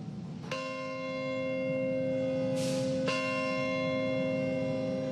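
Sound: memorial bell tolling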